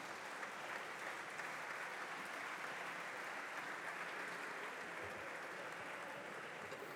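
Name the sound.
applause in parliament chamber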